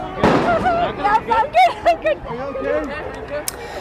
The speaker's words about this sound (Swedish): Ja, som ni hör, dramatiska scener i Los Angeles, tårgas, brinnande bilar och det vi precis hörde här, det är när en journalist träffas i benet av polisens gummikulor.